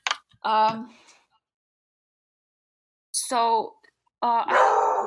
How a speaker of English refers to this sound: It's a dog barking. Mm-hmm. Should I get rid of that?